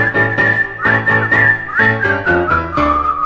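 Someone whistles a bright, steady melody that glides between notes, carried over a loud instrumental accompaniment with pulsing low chords about twice per second. No one speaks.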